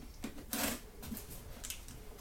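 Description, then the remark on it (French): Rustling of large sheets of baryta photographic paper, a card-like photographic paper, being handled: one loud crisp swish, then softer scrapes and light taps, with no one talking. “Ça justement, ça c'est des grandes feuilles de papier.”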